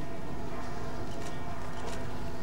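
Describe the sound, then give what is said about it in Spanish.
Cathedral bells ring steadily during a coronation ceremony, their overlapping tones sustained and blending together at moderate volume, with a faint wash of background noise and a couple of soft higher bursts. “El himno de España, las campanas de la catedral y los flashes de los fotógrafos dándose codazos para no perderse ese momento único, el de la coronación”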